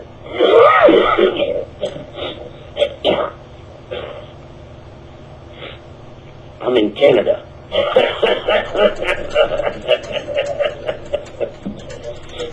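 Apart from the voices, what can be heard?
person coughing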